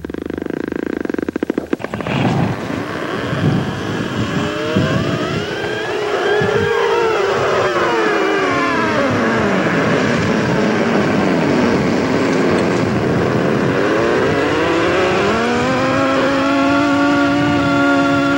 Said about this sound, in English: Let's listen to that. In the polar regions, the ocean's frozen crust moves, and that movement has a rhythm and a voice.